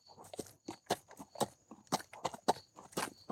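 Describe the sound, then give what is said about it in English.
Horse hooves clip-clop at a steady walking pace, a continuous run of crisp hoof strikes on hard ground with a slight crunch, as the horse carries a rider. “I'm dying of boredom on the back of this horse.”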